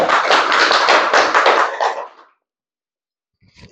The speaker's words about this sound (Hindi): और कोरापुर का superintendent sir, jailer sir और हमारे पत्रकार शांताकार साहब सर के लिए दीजिए जोरदार ताली।